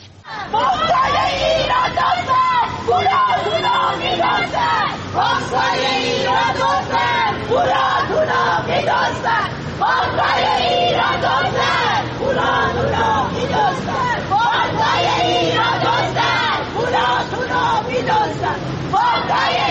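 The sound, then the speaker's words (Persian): A loud protest crowd of people who lost their money at the Caspian financial institution shouts and chants together, many voices rising and falling in a dense, steady roar that continues without pause for the whole stretch. “اما باز هم ویدیویی داریم از تجمع اعتراضی مالباختگان مؤسسه مالی کاسپیان.”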